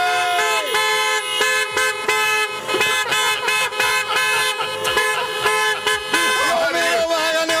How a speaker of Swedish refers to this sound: Vi ska se om vi kan maxa tutandet nu också. Är alla bilar beredda? Då tutar vi!